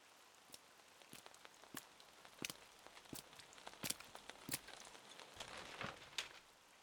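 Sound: autumn rain falling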